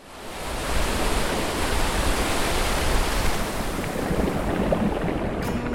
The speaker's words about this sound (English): My favorite thing about the ocean is the sound of the waves.